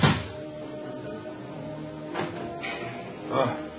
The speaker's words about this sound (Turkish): Çabuk açtı kapıyı!